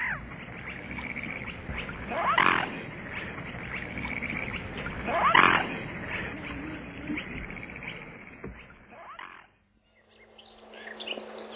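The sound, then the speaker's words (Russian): Two loud, honking calls from a swan swimming away from a boat on a lake ring out a few seconds apart over a steady outdoor wash of water and wind, with the background falling quiet near the end. “Мы попытались приблизиться к грациозной пернатой на лодке, но гордая птица уплыла, курлыча на своем лебедином наречии.”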